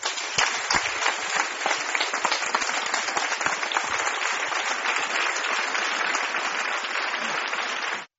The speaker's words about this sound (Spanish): No se sabe muy bien si aplauden a que se vaya. Sí. O al hecho de que se quede.